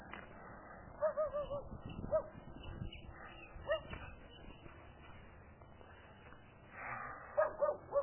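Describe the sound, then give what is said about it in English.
A dog barks and whimpers in short, high yelping bursts, a cluster near the start, a few scattered single cries, then another quick run at the end, not loud. “What, dog?”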